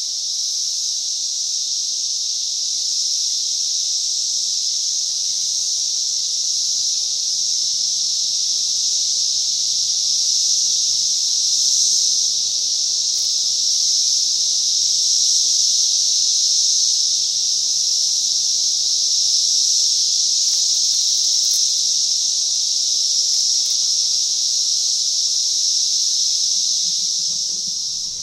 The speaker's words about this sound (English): Crepe myrtle tree murmur is the sound of the Brood X chorus from the interior perspective of the crepe myrtle tree. Listen carefully to see if you can identify all three species of the Magi cicada, Cassini, Septenducula, Septendicium,